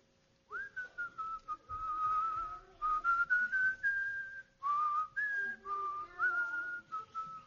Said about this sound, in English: So, I like to whistle. Sometimes when I'm in a large room like this and nobody's here, I would whistle, and I would whistle something like.